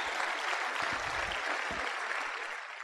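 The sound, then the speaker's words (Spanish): A crowd of students applauds themselves steadily, a dense wash of many hands clapping at an even, sustained loudness throughout, easing slightly at the very end, with no voices standing out. “Y de verdad, desen ustedes mismos un fuerte aplauso, porque ustedes están haciendo cosas diferentes y van a tener resultados diferentes.”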